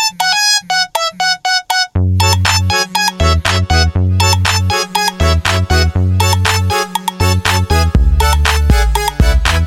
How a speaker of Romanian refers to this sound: Telefonul sună, dar eu nu vreau să răspund.